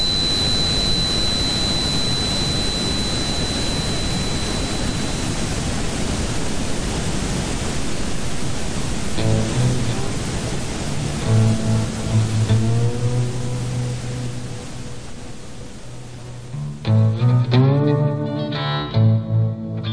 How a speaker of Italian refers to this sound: uno dei metodi per avere sollievo dal tinnitus consista in delle fasce sonore di rumore bianco diffuse nell'ambiente. Se qualcuno tra di voi ne soffre, forse proverà sollievo ascoltando questa fascia sonora prodotta da un software specifico.